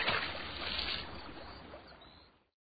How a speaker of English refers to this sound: Suddenly, the axe started to slip. Before the woodcutter could save it, it slid backwards and fell into the river with a splash.